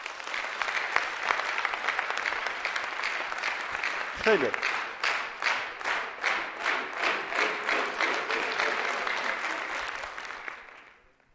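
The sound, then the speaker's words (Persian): A crowd applauds steadily for about eleven seconds, the clapping briefly falling into a rhythmic, in-unison beat midway before tapering off; a voice calls out once over it. “خودتون تشویق کنین.”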